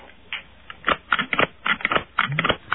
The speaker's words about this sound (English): Stapler. She produced that stapler very quickly.